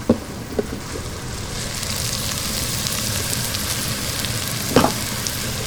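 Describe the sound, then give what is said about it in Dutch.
Chopped onion and sliced forest mushrooms sizzle steadily in olive oil in a hot wok, browning golden, a dense crackling hiss with a few sharper clacks of utensils stirring near the start and end. No one speaks. “Als het pan goed heet. Zorg dat het gelijk allemaal dichtschroeit. Het uitje lekker even aanfruiten.”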